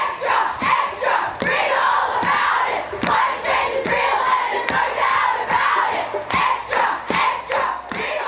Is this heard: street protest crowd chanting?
yes